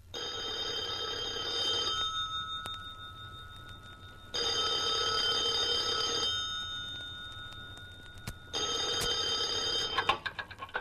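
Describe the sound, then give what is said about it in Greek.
A telephone rings three times, each ring a bright, trilling bell burst lasting about two seconds, separated by short silences. It's clear, with no one speaking. “Τότε, με χέρια που τρέμανε, τηλεφώνησε στο δόκτορα Δρακατόρ.”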